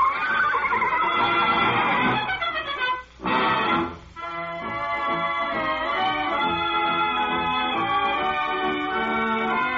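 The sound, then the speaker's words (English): A horse named Major Dan, in the radio story play The Horse Who Loved Music, whinnies loudly while racing across the parade grounds after the band, in long, wavering, high-pitched calls that break off briefly twice near the middle, then carry on steadily to the end. No one speaks. “that horse is racing across the parade grounds after the band”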